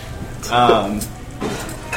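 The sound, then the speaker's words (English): Food sizzles on a hot plate, a steady hiss and crackle with a few clinks and scrapes of utensils over about two seconds. “If for those of you who can't hear that, there's a hot plate.”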